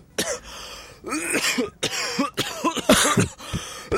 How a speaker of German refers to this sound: Ist ansteckend, oder, wenn jemand so hustet.